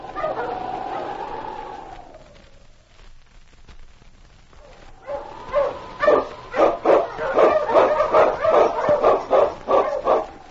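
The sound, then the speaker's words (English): After a drawn-out wavering tone fades, Yukon King, Sergeant Preston's wonder dog, bursts into a rapid, steady run of sharp barks and high yips, loud, with no one talking. “With Sergeant Preston and his wonder dog, Yukon King, battling through storm and snow as they meet the challenge of the Yukon.”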